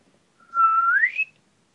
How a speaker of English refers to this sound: That whistles. Yeah. Sounds just like that.